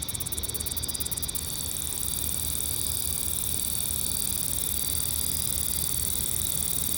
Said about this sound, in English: Speaking of things being really close to microphones, here's a recording from August of 2011 where there was a cicada sitting right on top of one of my mics.